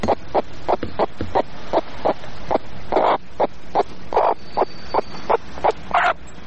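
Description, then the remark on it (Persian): A chicken clucks in a quick, steady run of short, clipped bursts, about a dozen and a half in a few seconds. It is fairly loud, with no voices over it. “آقای قطاسیار، ما که میبینم شما مرغا در این وقتا هم خوش هستین و هم دق، میشه بگوی علتش چیست؟”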